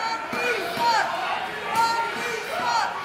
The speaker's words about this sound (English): And Rocky Rage comes out, and the crowd goes nuts. Mostly they're booing.